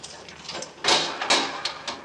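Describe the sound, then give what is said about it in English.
A Yale lock on a door is unlocked with keys and the door swings open: light rattling, then two sharp mechanical clunks about half a second apart, followed by softer clicks. “This is the only door in town with a Yale lock on it.”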